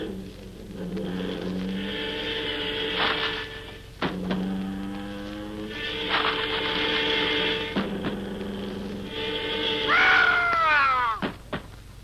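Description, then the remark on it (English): An automobile with a buzz saw on its front bumper, made to saw down trees and burn them for fuel, sputters to life. It makes a droning, buzzing mechanical whine in steady pulses broken by sharp clanks, ending in a wild warbling pitch sweep and a final clunk. “I've just invented an automobile with a bus saw on the front bumper. It saws down trees as it goes along and burns them for fuel.”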